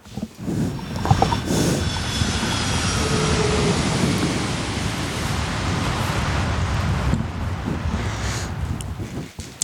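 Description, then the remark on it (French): A fighter jet roars overhead, a loud, steady wall of rushing noise with a thin high whine, holding strong for several seconds before easing slightly near the end. No voices. “Bruyant cet avion de chasse.”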